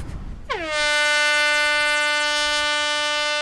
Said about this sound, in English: With a loud horn, the first round of the day is set into motion.